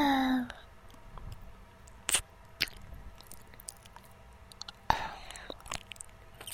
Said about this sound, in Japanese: 耳なめと甘噛みによるマッサージですわ。